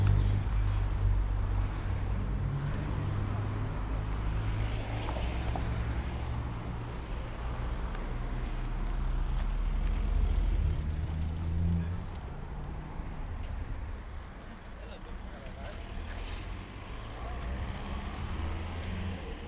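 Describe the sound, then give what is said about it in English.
A steady, low engine rumble fills the whole stretch, like riding inside a car driving home, with a constant droning hum and some wind-like noise over it and no one talking. “So, jump in the car, speed it home.”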